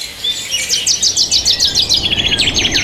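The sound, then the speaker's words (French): Birds chirp and sing in a rapid, repeating series of bright high-pitched notes, clear, with no voices or other sounds around them. “Le chant des oiseaux, c'est un peu le son du printemps, n'est-ce pas ?”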